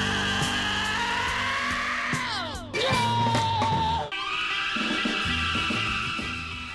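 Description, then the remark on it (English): A rapid montage of high-pitched, wailing rock screams over loud band music, several short excerpts from vinyl records collected by scream enthusiast Leroy Stevens, spliced back to back with abrupt cuts, some cries sliding sharply downward in pitch. “Screams from scream enthusiast Leroy Stevens.”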